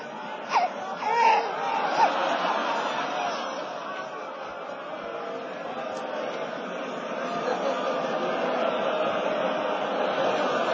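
A baby cries in short wailing bursts near the start, in hot weather, then fades into a steady, noisy crowd din of overlapping voices that carries on to the end.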